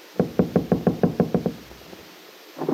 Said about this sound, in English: A moment later, Peggy knocked at the door, which was opened by her friend James.